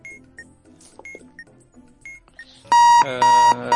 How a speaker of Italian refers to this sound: Un attimo che spengo la sveglia.